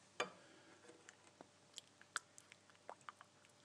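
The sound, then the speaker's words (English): A tea bag being gently squashed against the side of a cup: a run of soft, wet squishes and small clicks, quiet, scattered irregularly with no talking. “That's the sound of a tea bag being gently squashed against the side of a cup before being thrown in the bin.”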